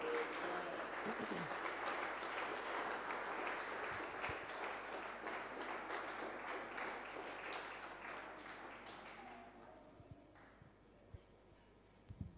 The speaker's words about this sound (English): Let's give a big clap to Jesus.